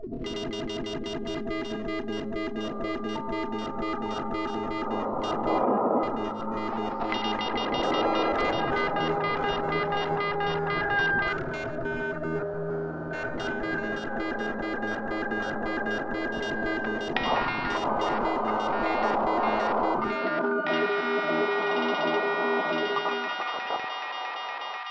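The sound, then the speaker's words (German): An echo and reverb audio effect being demonstrated: a dense, continuous wash of sound, with tones smearing and ringing on, layered repeats blurring together at a steady, fairly loud level. “Echo und Hall.”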